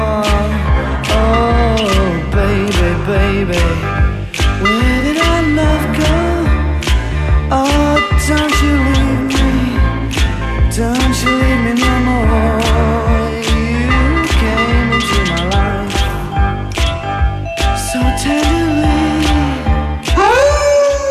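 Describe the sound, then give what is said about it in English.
A pop song plays on the radio station 102.7 The Wolf, loud and continuous, with a sung melody over a full band and a steady, punchy drum beat driving the rhythm throughout. “A song that was supposed to be a ballad.”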